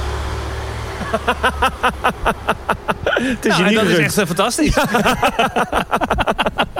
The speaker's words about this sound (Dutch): Ja, er kwam een auto en een scooter langs.